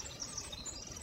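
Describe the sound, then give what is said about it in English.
A soft morning birdsong chorus from Tectexan Marsh on Saturna Island, British Columbia, with song sparrows, American robins, red-winged blackbirds, nuthatches, yellowthroats and ravens. Many high chirps and trills overlap in a steady, continuous, quiet wash, with no voices. “Song sparrows, American robins, red-winged blackbirds, nuthatches, yellowthroats, and ravens are heard in the rich tapestry of morning birdsong.”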